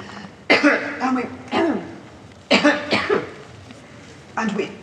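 coughing fit

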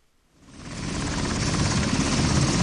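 helicopter landing

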